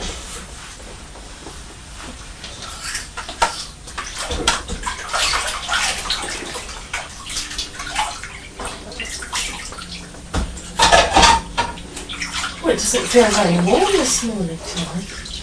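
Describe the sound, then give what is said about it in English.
A toast plate with Winnie the Pooh on it is washed in the kitchen under steadily running water, with hissing flow, uneven splashes and sloshing throughout, and voices murmuring beneath it toward the end. “I'll take it into the kitchen now to wash it up.”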